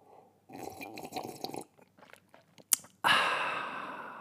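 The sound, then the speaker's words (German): Someone drinks sparkling raspberry juice: a run of wet sipping and gulping, a few soft swallowing clicks and a sharp tap, then a loud fizzy hiss that slowly fades. No one speaks. “Ich muss immer irgendein Trinkgeräusch machen, weil sonst ist einfach nur so 5 Sekunden Stille.”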